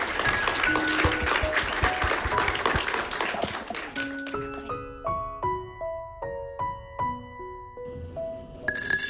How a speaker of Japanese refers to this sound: 今一度皆様に大きな拍手をお願いいたします。